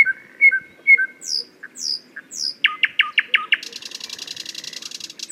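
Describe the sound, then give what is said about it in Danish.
A flute imitates a nightingale, a quail and a cuckoo: held whistles and high darting chirps, then a quick rhythmic run of short notes like a quail call and a bright, sustained trill at the end. “Det er en lille trio af fugle, hvor nattergalen i fløjten indleder kodaen, og vaklen ligesom kommer med et fint rytmisk motiv, og gøen, som er en fugl fra naturen, der er en stor tradition for også at imitere, fordi den har så let et motiv.”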